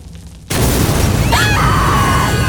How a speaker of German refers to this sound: Die Empore schien förmlich zu explodieren. Die Marionetten wurden die umstehenden Priester durch die Luft geschleudert, prallten gegen Wände und Säulen. Der ganze Tempel zitterte.